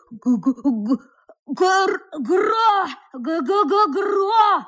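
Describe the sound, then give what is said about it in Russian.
A voice makes feeble, groaning grunts in three drawn-out bursts, a weak attempt at 'gro-go' and 'grakh' snoring sounds that sounds more like strained moaning than real snores. “В отчаянии он повторил про себя все звуки, которые ему велел запомнить Карлсон, и в конце концов попытался издать какое-то жалкое «гро-го» вперемешку с такими же жалкими «грах». Но все это совсем не было похоже на храп.”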